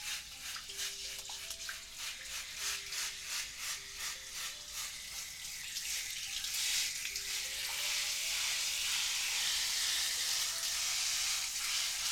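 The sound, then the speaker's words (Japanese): Hiss of water spraying from a shower head onto another person, sputtering in rhythmic bursts at first, then settling into a steady, fuller rush. No one speaks. “シャワーも気持ちいいですよね。”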